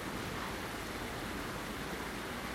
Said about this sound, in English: here just looking at the twin weir, as it were. Great thing is, that as the water level goes down, you get better sounds when it's after heavy rain and it gets higher and higher. You don't get that double-barreled sound effect of the water dropping.